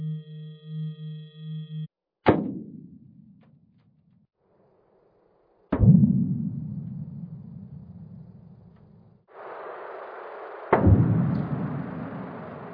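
Sonified earthquake recording: a pulsing low hum, then three sharp cracks, each trailing off into a deep, decaying rumble like thunder, with a hissing wash building under the last.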